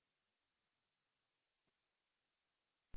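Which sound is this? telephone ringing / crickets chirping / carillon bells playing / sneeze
crickets chirping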